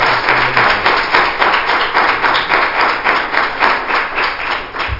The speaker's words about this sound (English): Let's give the Lord a hand clap for prayer. Oh, hallelujah.